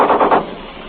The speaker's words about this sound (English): Machine gun just fired. Our machine gun just fired. From the fast shot. Three or four shots. You probably heard it.